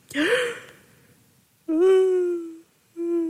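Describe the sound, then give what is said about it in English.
A person yawns: a breathy inhale opens into a long, drawn-out voiced groan that slowly trails off, followed by a brief second vocal tail. “Sorry, I just yawned.”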